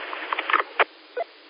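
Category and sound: nature, rain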